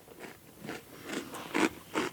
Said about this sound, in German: Es kaut noch